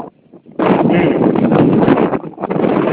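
Loud, blustery wind buffeting a phone's microphone during a call, outdoors high up at a landfill where the caller works, starting abruptly after a quiet moment and roaring continuously with rough, rumbling gusts that briefly dip before surging again.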